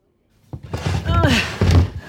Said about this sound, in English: Bench across the doors. Should keep the curious at bay.